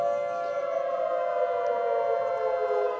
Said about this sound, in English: Put your hand up and tell me, what was that? What was that? Right, there's a girl there. What do you think? A war siren. You're exactly right.